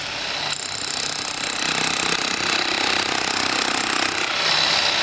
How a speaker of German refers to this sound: Der Steinbildhauer hat einen Schlaghammer in den Fingern. Eine Art Bohrmaschine mit einem Meissel dran.